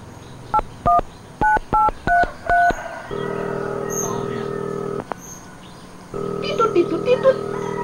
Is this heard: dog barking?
no